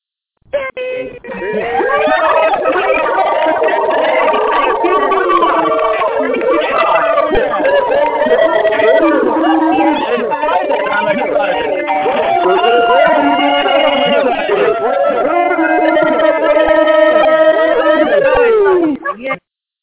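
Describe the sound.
A dense, tinny mass of many callers from different countries screaming and yelling at once over unmuted telephone lines, sustained loudly for about eighteen seconds before cutting off abruptly.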